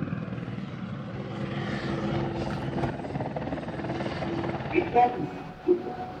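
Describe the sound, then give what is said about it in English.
A helicopter drones steadily overhead, its rotor noise a broad, constant rumble that swells slightly as it circles, with a few faint sharp sounds near the end and murmuring voices underneath. “Like at one point, this helicopter showed up and started circling right above us.”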